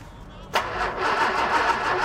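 A car engine cranks over outside a pub as the driver tries to start it, with a steady, rhythmic chugging whir that begins abruptly after a brief quiet moment, fairly loud, never catching into a running idle.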